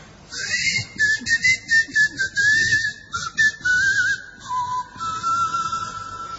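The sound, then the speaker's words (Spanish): A person whistles a continuous, wavering tune that slides gently up and down in pitch, clear, with no one speaking; the whistling of the inhabitants of the island of Tracoda from John de Mandeville's account. “Bueno, a poco de llegar a Tracoda, se escuchaban los silbidos de los habitantes, y eso es todo lo que dice John de Mandeville acerca de esta isla.”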